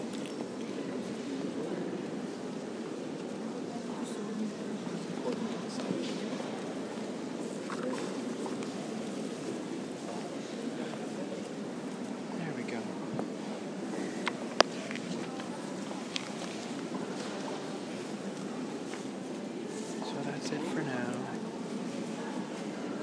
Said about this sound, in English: Sound of silence from inside Notre Dame.